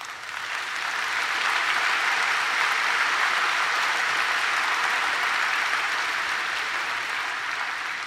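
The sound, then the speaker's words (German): Sustained applause from an audience in a hall, women among those clapping, a dense steady wash of many hands clapping that holds at an even, fairly loud level for about eight seconds, with no voices standing out. “Auch wenn die Frauen mit Beifall geben, dann ist das auch schön.”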